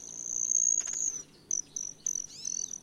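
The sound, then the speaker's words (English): A high, thin buzzing whine from a broad-tailed hummingbird's tail feathers as it dives past a female it is trying to impress holds steady for about a second, then breaks into four short buzzy bursts, with no voices. “Scientists showed that broad-tailed hummingbirds time their dives just right so that all of the effects, the tail buzz, the high speed, and the color change in their throat feathers, all happen in the same 300 millisecond window as they zoom past”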